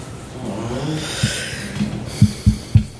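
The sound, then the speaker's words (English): A run of short, harsh coughs, five or so, coming faster and louder toward the end, with no talking. “I'm just going to have to wait because I can't quit coughing.”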